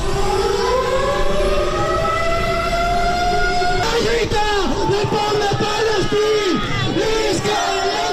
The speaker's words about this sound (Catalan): Això que heu sentit han estat les sirenes del simulacre de bombardeig en què els manifestants s'han estès en terra a les avingudes de Palma i després han proferit clams contra la guerra d'Israel a Palestina.